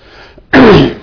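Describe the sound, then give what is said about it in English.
A single loud cough from a person with a bad throat problem bursts out after a brief quiet moment, harsh and breathy with a rough vocal edge trailing off over about half a second. “Now I have a terrible throat problem, so I'll just have to bear with me coughing.”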